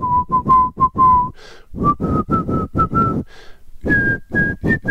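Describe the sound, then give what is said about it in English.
The character Omar, played by Michael K. Williams, whistles the nursery rhyme 'The Farmer in the Dell' while walking down the street in a long coat with a shotgun; a steady run of short, separate notes that climb in pitch in phrases, clear and fairly loud with no talking. “Williams, is walking down the street with a long coat and a shotgun, whistling.”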